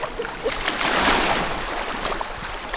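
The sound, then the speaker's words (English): Steady sloshing and splashing of cold sea water as a woman carrying two sample bottles wades in at South Point Higgins beach near Ketchikan to test the water, a continuous churning wash that swells briefly midway, with no voices. “With her two bottles, she heads straight into the cold water.”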